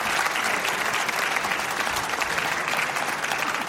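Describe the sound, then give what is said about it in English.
A church audience claps steadily and enthusiastically for everybody who helped make the Disciple Now (DNOW) weekend possible, a dense, continuous wash of applause that holds at an even level throughout, with no talking over it. “And I'd like to give a big round of applause to everybody who helped make DNOW possible.”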